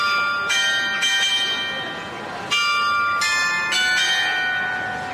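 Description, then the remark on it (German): The mechanical carillon of the town hall in Franeker, Netherlands, rings out the wedding march, with bright, resonant bell notes struck one after another in a slow, stately melody, each tone lingering and overlapping the next, with no voices. “Das Glockenspiel des Rathauses, auch ein mechanisches Wunderwerk, lässt zu unserem Abschied passend den Hochzeitsmarsch erklingen.”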